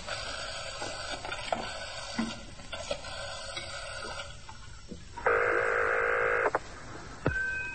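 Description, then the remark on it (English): A telephone number being dialed: a run of short clicks and tones over a steady hum, then a longer electronic tone for about a second before a final sharp click. Fairly clear. “Let me make one phone call.”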